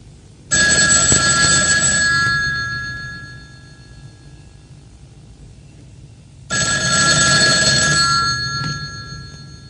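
A station telephone in a metro station rings loudly twice, each ring lasting about two seconds and separated by a long pause, with the ringing fading into an echoing, hollow space and no one speaking.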